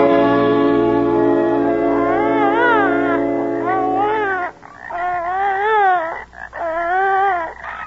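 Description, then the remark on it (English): A starving baby girl, without milk for two days, wails loudly in long, high, wavering cries that rise and fall in pitch, first in one sustained stretch, then in several shorter bursts separated by brief catches of breath. “Can't you keep her quiet, Marcia? She'll be quiet soon enough, Paul. It's been 2 days since she had that milk. She's starving.”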